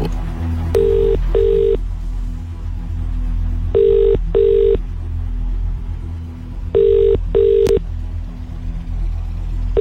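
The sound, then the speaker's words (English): Ringback tone of an outgoing phone call to a randomly selected number: three paired double-burst rings at steady, even intervals, fairly clear over a low background rumble, with no talking. “Are we ready on the phone lines? Here we go.”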